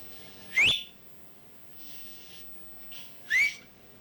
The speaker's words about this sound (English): I can close my mouth sometimes and whistle a tune. You can hear it over there. With my mouth closed.